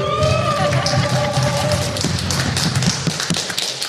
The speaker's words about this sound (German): Hallo erstmal hier auf Burg Breuberg. Wir haben hier tausende Gäste im Publikum. Macht mal ein bisschen Lärm, dass man euch hört.